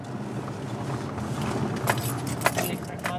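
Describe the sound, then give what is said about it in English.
Steady low rumble of a car's interior in Rochester with a couple of short knocks or clunks near the end, like someone settling into the vehicle; no clear speech. “I got in the car”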